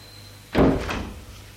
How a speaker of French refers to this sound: Une fois qu'elle a fermé la porte, Hortense dit, j'ai à peine fini de sonner qu'elle est déjà là.